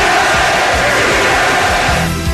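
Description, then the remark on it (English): A dense arena crowd roars and chants "Beat L.A." in unison for the Sixers, a loud, continuous wall of voices with rhythmic rising shouts pulsing through the din. “You hear the crowd chanting to the Sixers?”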